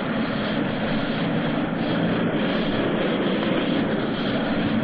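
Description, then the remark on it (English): A T-33 jet aircraft carrying a pilot and a reporter roars steadily as it takes off down the runway, a loud, continuous engine rush that neither rises nor fades over the few seconds, with no voices. “The only jet that will carry a reporter as well as the pilot is a T-33.”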